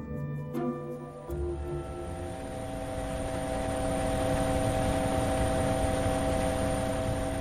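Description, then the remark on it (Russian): A helicopter lands, raising a cloud of dust, apparently at a military facility in New Mexico; its engine and rotors drone loudly and steadily, with a dense mechanical whine over rushing wind noise and a couple of sharp clunks near the start. “Вертолет поднял в воздух облако пыли и опустился на территории, по всей видимости, некоего военного объекта, расположенного в Нью-Мексико.”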